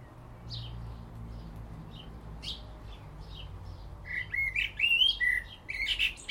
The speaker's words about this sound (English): I was enjoying the bird song.